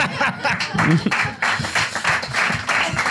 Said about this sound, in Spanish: Gracias por ese aplauso solitario.